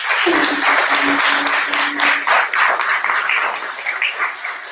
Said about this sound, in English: But kudos to everybody that has a business. Give yourself a clap.